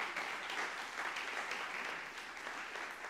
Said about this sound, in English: Give Him a hand clap of praise this morning.